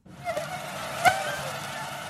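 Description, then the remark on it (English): A thin, high-pitched insect whine from a mosquito's beating wings, steady, with a brief louder swell near the middle of the short recording. “For us, the sound is annoying, but for the mosquito, it's a love song. The buzz, made by its wing beats, helps the insects find mates and reproduce.”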